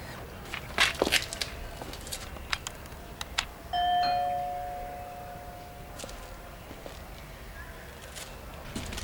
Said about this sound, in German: Soll ich klingeln? Ja, nur zu.